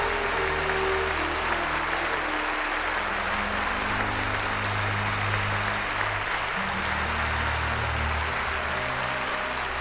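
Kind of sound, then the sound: crowd, standing ovation applause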